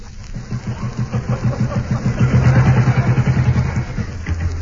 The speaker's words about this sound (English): No, look. There's an AA patrolman coming along. Look, on the motorbike.